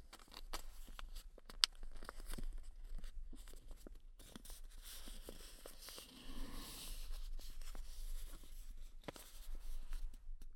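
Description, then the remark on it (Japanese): Paper being folded by hand for origami, its edges folded toward the center, then turned over and folded toward the center again: steady crinkling and rustling with sharp creasing snaps scattered throughout, some louder bursts near the middle and end. No one speaks. “反対側も同じように中心に、裏返して同じようにまた中心に向かって折っていきます。”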